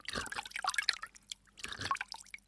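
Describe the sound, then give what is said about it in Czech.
Water sounds in two short bursts as someone leans over a stream and drinks: drips and small splashes patter and plink, like water being scooped or trickling into the stream, fairly quiet with a brief pause between. “Žíznivá princezna slezla z koně, naklonila se nad vodu v potoce a pila.”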